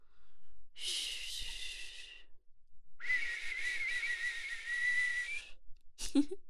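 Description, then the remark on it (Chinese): Someone whistles in two long, breathy, sustained blows, the second carrying a clearer tone, followed by a short sharp puff at the end. No one speaks. “一边吹起了口哨”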